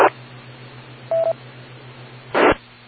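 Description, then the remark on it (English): A radio transmitter gives one short, steady mid-pitched electronic beep, with bursts of static hiss before and after it and a low constant hum underneath. No one speaks. “I think you are louder than the beep.”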